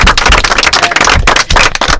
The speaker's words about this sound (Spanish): Un aplauso fuerte, chicas, para vuestros padres también.